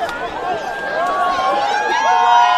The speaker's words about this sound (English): The crowd is packed around a small group of speakers in Times Square.